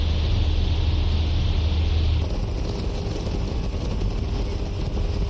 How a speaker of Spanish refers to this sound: Esto que escuchas eran las alas de los gansos, el sonido del motor y las lágrimas de ella